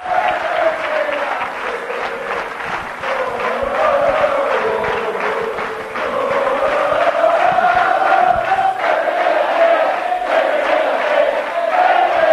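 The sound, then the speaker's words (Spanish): A large crowd chants "Pepe, quédate" in unison inside a hall in Alcalá de Henares, at a tribute by the Ramón Mendoza supporters' club to footballer Pepe for 10 years at Real Madrid. A loud, steady roar with a rising and falling sung line carried by many voices, mixed with clapping throughout. “Este es el sonido del interior de la sala con Pepe.”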